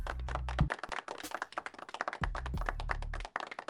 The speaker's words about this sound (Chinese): 大家再次掌声祝贺。